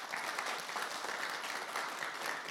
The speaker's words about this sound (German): Gib ihm mal einen Applaus an der Technik heute zum ersten Mal.